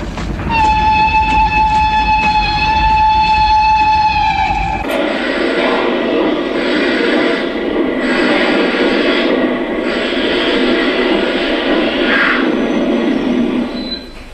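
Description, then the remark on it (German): A locomotive crossing an open plain lets out a loud, shrill warning whistle signalling danger, held steadily for several seconds, then cuts off into the heavy, continuous rumble and clatter of the moving train. “Eben hatten wir ein herrliches Tal durchquert und fuhren hinaus auf die freie, offene Ebene, als die Maschine jene gellenden Pfiffe ausstieß, die eine drohende Gefahr anzeigen.”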